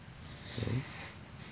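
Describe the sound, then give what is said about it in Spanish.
A single deliberate breath from a breathing exercise, drawn from bottom to top, fairly loud, rising briefly with a rough, slightly nasal rasp before fading into a quiet hiss of room noise. “Bien, entonces esa respiración o esta de abajo hacia arriba puede ser ejercitada.”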